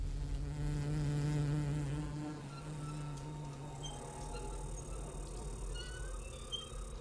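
insect buzzing

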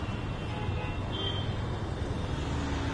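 street traffic

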